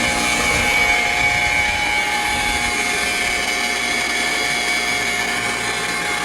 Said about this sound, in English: Okay, I'm turning on the spark gap. Thank God. Now I'm throwing the switch. This is the noise you hear before you die.